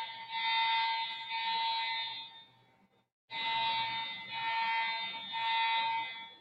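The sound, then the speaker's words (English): A loud electronic fire alarm blares with a harsh, high-pitched pulsing tone, cuts out for a split second midway, then resumes just as piercingly. No voices are heard. “The fire alarm just went out at Levi's Savior.”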